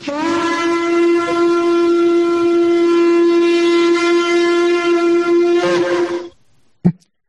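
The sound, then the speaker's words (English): A shofar sounds one long, steady blast of about six seconds, a loud, brassy, buzzing tone held at a single pitch, then cuts off abruptly, followed by a brief faint knock. “Well, I'm going to give a shofar for Joe Biden and Kamala Harris.”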